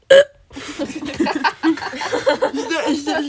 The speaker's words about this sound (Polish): to coś jakbyś beknęła.